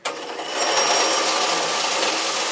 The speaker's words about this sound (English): Can I applaud you for a second while we blend our Mardi Gras drinks? Can we do this? Nope, blender alert.